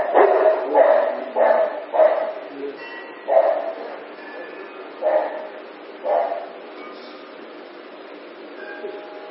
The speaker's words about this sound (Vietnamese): Mấy chó nó ồn ào ra thu vô băng hết.